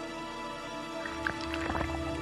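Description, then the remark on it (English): A hydrophone, an underwater microphone, is lowered into the water to record, giving a few soft splashes and gurgling drips over about a second, set against a steady low electrical hum that runs throughout. “is lowering a hydrophone, an underwater microphone.”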